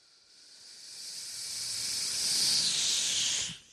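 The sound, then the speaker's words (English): A voice imitates a hot black fajita skillet sizzling as it is set down on a table at a Chili's restaurant, with a steady, breathy hiss that swells louder over about three seconds before cutting off abruptly. “And everyone would be looking, and she'd come over with the hot black skillet and set it down on my table. Steam exfoliating my face.”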